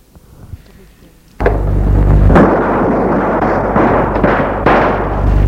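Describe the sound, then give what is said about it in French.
After a few quiet seconds, loud gunshots erupt abruptly inside a store, with several more sharp cracks cutting through a dense, echoing roar that persists to the end. “Des coups de feu ont retenti à l'intérieur du magasin.”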